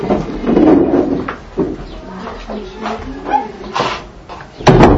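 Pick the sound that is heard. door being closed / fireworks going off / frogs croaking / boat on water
door being closed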